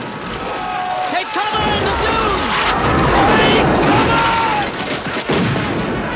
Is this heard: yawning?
no